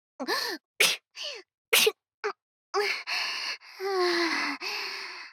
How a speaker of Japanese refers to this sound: ごめんなさい。顔の目の前で、マスクしてたけど、大丈夫だった？ああ、よかった。ごめんね。花粉症でくしゃみが出ちゃうのよ。